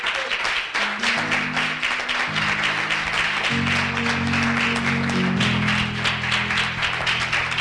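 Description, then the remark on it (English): An audience claps steadily in praise of God in a dense, sustained burst of applause, with sustained organ or keyboard chords playing underneath throughout. “Come on and give God a hand clap of praise, everybody.”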